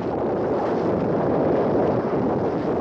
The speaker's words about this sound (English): Time and again, witnesses say tornadoes sound like freight trains.